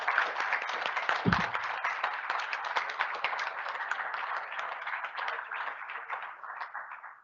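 A sustained round of applause from a crowd at an NIU Faculty Senate meeting, thanking its parliamentarian for years of service, dense overlapping claps at a steady level that taper slightly toward the end, with a brief low thump early on.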